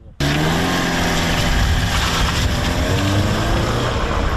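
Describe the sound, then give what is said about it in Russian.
A reconnaissance drone flying overhead gives a steady, loud mechanical buzz with a layered harmonic whine, starting abruptly and holding constant for several seconds over rushing wind-like noise, with no talk. “Он над нами. Давай. Вот туда маленько. И неизвестно, чей это дрон.”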